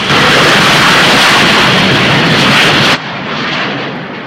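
A loud, steady roar of an airplane accelerating down the runway and lifting off into a clear blue sky, full of hissing noise, then it abruptly drops in level and loses its high edge, continuing as a duller rumble.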